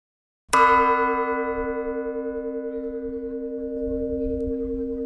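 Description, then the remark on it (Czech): A single church bell, cast in 1649 by Hans Knauf in Troppau, diameter 830 mm, weight 350 kg, tone B (H), is struck once, loud, its deep tone ringing out and humming steadily for several seconds with a slow pulsing shimmer as it decays. “Průměr 830 mm, hmotnost 350 kg, tón H.”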